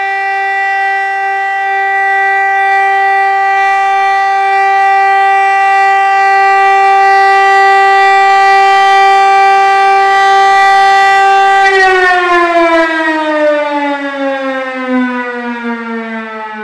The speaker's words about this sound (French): La sonnerie de l'espérance, de l'usine de l'espérance, elle sonnait pour la pause de 6 heures. Elle sonnait pour la pause de 2 heures. Et elle sonnait pour la pause de 10 heures.